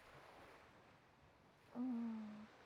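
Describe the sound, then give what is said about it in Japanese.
Soft, steady wash of ocean waves on a beach, with a brief louder low droning tone rising near the end; no one speaks. “ほら、海。ほら、波。海、波。”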